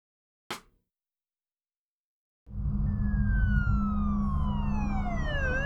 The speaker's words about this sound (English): When you see the flashing blue light, or when you hear the siren, you know there are lives in danger. Every second counts. Time is the key to saving lives. Give way to ambulances.